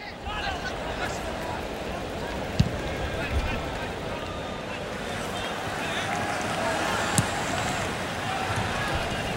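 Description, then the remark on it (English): A football match at the 2004 Athens Olympics: a steady, dense roar of crowd noise with shouting voices throughout, broken by two sharp thuds of a ball being kicked, one early and one later. “What you're hearing now is a game from the Athens Olympics in 2004.”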